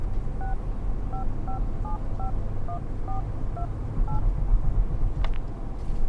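A quick run of about eleven electronic keypad beeps, each a short dual-tone blip, as a mobile phone number is dialed over a steady low rumble like a car interior.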